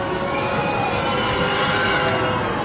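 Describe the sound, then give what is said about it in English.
A loud, steady roar from a raucous basketball crowd cheering, a dense wash of voices with no single speaker standing out, holding at an even level throughout. “And got the bounce to quiet the raucous crowd down momentarily.”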